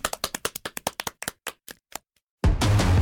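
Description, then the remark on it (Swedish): Scattered hand clapping, a quick run of claps that slows and thins out to a few last taps, followed by a sudden burst of loud, dense noise that cuts in at the end. “Folkets jubel.”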